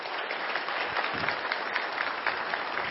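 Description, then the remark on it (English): Sustained applause from a sizable audience in an auditorium, thanking several ministers: a dense, steady wash of many hands clapping at once, fairly loud and continuous throughout with no voices standing out. “Let's give them a quick round of applause to say one last thank you.”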